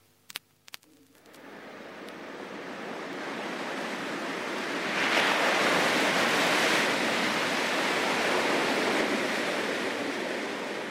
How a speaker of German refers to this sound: Yves Klein macht das legendäre weiße Rauschen hörbar.